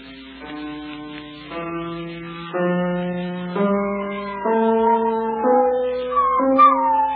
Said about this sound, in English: I remember the wife's dog, big, fat spaniel it was. He was howling along at the piano the way he always did.